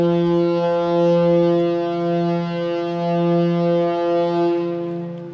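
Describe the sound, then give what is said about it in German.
A shipyard horn in Flensburg blares to signal the lunch break. It also sounds for the breakfast break and the end of the workday. One long, steady, low-pitched tone, loud and unbroken for several seconds with rich harmonics, then begins to fade at the end. No one speaks. “Was ist das für ein Geräusch? Ja, wir haben jetzt Mittagspause. Das hört man auch zur Frühstückspause und zum Feierabend.”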